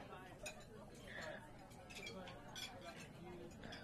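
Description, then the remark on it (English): Dishes clink and clatter in a sink as they are washed, with scattered light knocks of plates and cutlery, fairly quiet, under faint indistinct voices and a steady wash of background noise. “I'm just helping you do the dishes.”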